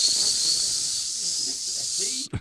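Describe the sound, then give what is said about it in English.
A steady, loud sizzling hiss runs almost the whole length, bright and continuous, then cuts off abruptly near the end with a brief low thump. “He's sizzling. Just messing with you. He's sizzling. Here he is, sizzling.”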